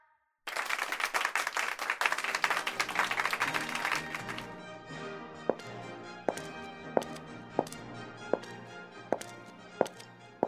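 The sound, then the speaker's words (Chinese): Audience applause at an award ceremony as a team captain goes on stage to receive an honorary medal from the mayor: a burst of dense, loud clapping for a few seconds, then thinning to scattered single claps over a steady humming tone. “让我们以热烈的掌声，让我们的队长上台接受市长颁发的荣誉勋章。”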